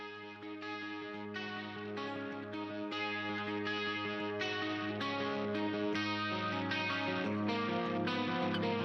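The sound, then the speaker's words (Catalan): A hard rock song opens with loud, distorted electric guitars playing a driving, steady riff over a thick low end, sustained and dense with no vocals yet. “a més de les bones guitarres”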